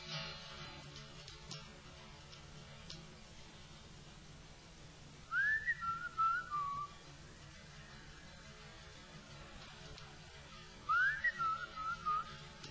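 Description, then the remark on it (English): A person whistles a short melodic phrase as a call and response, then after a pause whistles a similar phrase again, clear over a quiet, hissy background with no talking. “I'll whistle a line, you whistle it right back at me.”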